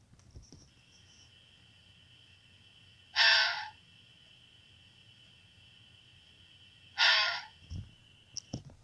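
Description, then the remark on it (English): Two harsh, raspy screams from a female fox, each lasting about half a second and spaced several seconds apart, ringing out over a quiet night background with a faint steady insect hum. “As for a vixen, this is what it sounds like when they scream.”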